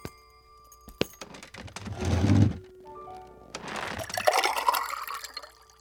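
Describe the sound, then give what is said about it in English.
Water pours into a glass with a splashy, gurgling rush, its pitch rising as the glass fills. A brief clink comes first, and no one speaks. “You wouldn't have any water to spare, would you, mister?”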